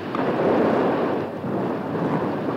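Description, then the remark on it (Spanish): Heavy rain pours down in a loud, continuous roar, a dense wash of hissing noise that stays steady throughout with no voices. “La lluvia seguía cayendo a borbotones.”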